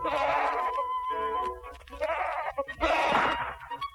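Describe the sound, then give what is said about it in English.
Wild goats on an island bleat repeatedly in wavering, nasal cries, several calls overlapping in quick succession, fairly loud, with no talking. “As I explored the island each day, I found many wild goats.”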